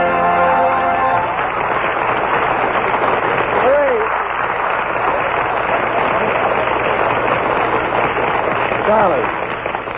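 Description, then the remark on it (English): A large audience claps steadily in a loud, dense wash of applause that holds for the whole stretch, with a few brief whoops or voices rising above it and a fading tone at the start. “Cease the applause.”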